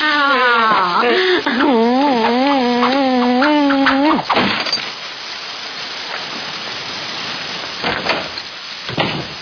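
running water

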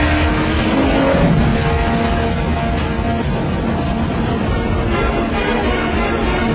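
car engine revving

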